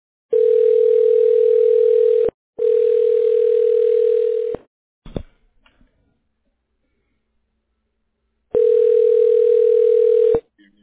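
A loud, steady telephone dial tone after a dropped call, sounding in three long two-second bursts with a click between the second and third, and a pause before the last.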